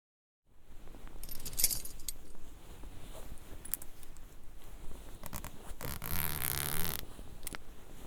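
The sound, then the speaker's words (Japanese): Crisp rustling and clinking as a belt buckle is undone, followed by the rasp of a trouser zipper being pulled down as someone takes off their trousers, with no voices. “うわぁ、本当に脱いでる。ベルトを外してチャックを下ろして。”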